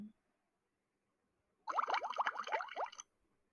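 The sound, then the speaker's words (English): A brief burst of watery splashing and sloshing as a teacher places a fish into a plastic Tupperware container of water during a classroom experiment, lasting just over a second, with no voices. “Teacher place the fish in Tupperware A.”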